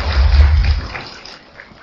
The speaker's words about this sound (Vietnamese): Xin quý vị cho tràng pháo tay để nhìn, để làm quen với Đại Đức.